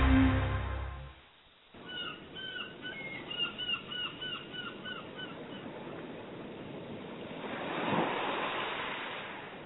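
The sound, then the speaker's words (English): Seagulls give a string of shrill, mewing cries over the steady wash of ocean surf, with a wave swelling louder near the end. No one speaks. “Well, there's nothing like a walk on the beach or listening to the seagulls at the ocean from a beach house.”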